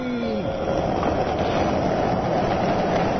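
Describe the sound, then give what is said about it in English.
Skateboard wheels roll across concrete at a skate park in a steady, loud, gritty rumble, continuing without a break for a few seconds with no one talking. “I'm actually down at my local skate park, mate.”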